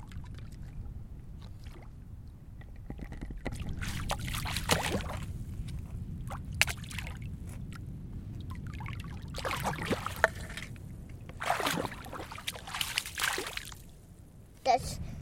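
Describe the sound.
Big sea waves slosh and splash in repeated surging bursts against a steady low rumble, with a faint murmur of voices in the background, on a deep sea in winter.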